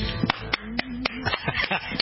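A few people clap their hands in sharp, uneven bursts, the claps growing quicker and overlapping toward the end, with a soft voice humming or murmuring underneath.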